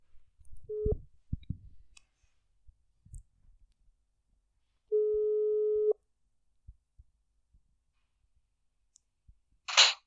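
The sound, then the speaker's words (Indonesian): A phone line rings as a caller is phoned directly: a steady mid-pitched ringback tone, a brief one and then a longer second-long tone, among scattered soft clicks and a short noisy burst at the end. “Kita telepon langsung.”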